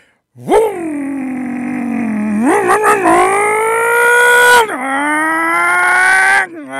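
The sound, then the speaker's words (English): A person imitates a muscle car engine with their voice, a loud buzzing drone that climbs in pitch, sputters through a few quick revs, holds high, then drops and roars on for several seconds. “show us what your, or let us hear what your fast car, muscle car sound effect would sound like.”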